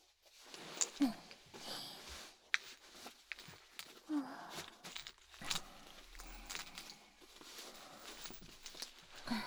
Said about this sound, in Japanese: とりあえず紐付きの足かせをつけさせてもらうね。